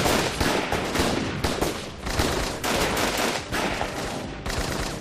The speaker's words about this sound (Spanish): Tres guardaespaldas la acribillaron a balazos.